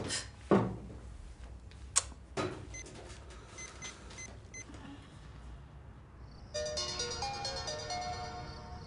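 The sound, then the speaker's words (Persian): A few sharp clicks and clunks give way to a phone ringing with a bright, melodic electronic ringtone that starts near the end and keeps playing steadily and fairly loud. No one speaks. “تلفن ترانه است؟”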